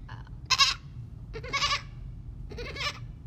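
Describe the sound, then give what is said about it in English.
A person imitates a goat, letting out three wavering, nasal bleats about a second apart, fairly loud over a steady low background rumble. “They don't just all turn their heads around to face me, who is making a goat noise”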